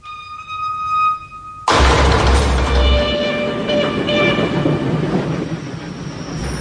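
A steady whining hum gives way to the sudden, loud rumble of an amusement ride train rolling along its tracks, with a metallic squeal ringing over the continuous clatter.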